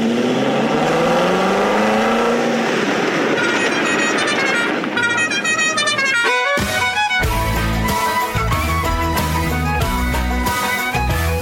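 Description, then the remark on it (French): A sports car engine revs hard, its pitch climbing steadily as it accelerates for several seconds, loud, before rhythmic music with a heavy beat takes over. “Et puis j'ai toujours rêvé de conduire une voiture de sport.”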